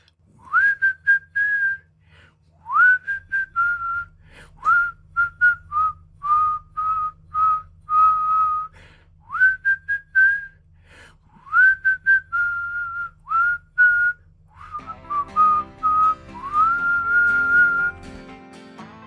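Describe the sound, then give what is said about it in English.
A man whistles a cheerful melody in clear, sliding phrases with brief pauses between them, steady, as he strolls back to his car; near the end a soft instrumental backing swells in beneath the whistling. “And then he strolled back to his car, calm and relaxed, whistling all the way.”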